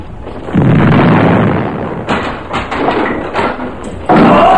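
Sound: ship cannon fire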